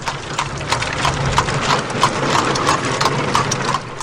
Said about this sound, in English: The sound of horse-drawn buggies clip-clopping along country roads in Nickel Mines, Pennsylvania today as Amish families gathered to bury four of the five young girls gunned down inside their small rural schoolhouse on Monday.